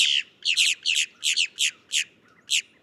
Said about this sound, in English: But other grackles are pickier about their habitat, like the boat-tailed grackle, found in tidal zones along the Gulf and Atlantic coasts of the U.S.